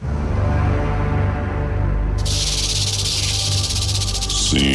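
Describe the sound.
A voice imitates a snake, speaking snake language to a rattlesnake, with a long, breathy hiss that starts partway through and holds steady and loud over a low, continuous musical drone.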